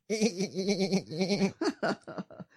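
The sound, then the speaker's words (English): A person imitates a sheep, letting out a long wavering bleat for over a second, followed by a few short, choppy bleating bursts, loud. “Bah. No, that's it. Sheep.”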